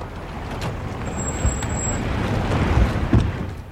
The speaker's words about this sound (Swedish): Sen körde närmare 20 stora svarta bilar in på området.